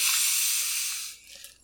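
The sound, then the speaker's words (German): A soda bottle being opened, with a steady, fairly loud hiss of escaping gas that lasts about a second and then quickly dies away. No one speaks. “Aber ich werde jetzt die mal öffnen.”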